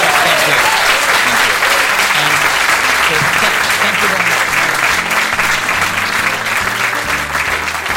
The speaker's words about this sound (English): But anyway, so I wonder if we can give Craig Hill a big round of applause for joining us.